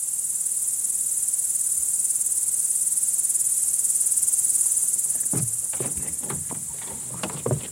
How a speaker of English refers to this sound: Nighttime at the dacha is amazing. You don't hear any of the sounds of the city. No cars, no motorcycles. Just the whirring of hundreds and thousands and millions of insects in this field behind me.